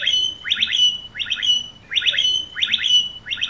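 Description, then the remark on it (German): Blackbirds mimic an e-scooter alarm: a bright, electronic-sounding warble of rapid beeping notes, repeated in four quick bursts at a steady rhythm, with no talking. “Und also diese Amseln imitieren halt die Roller.”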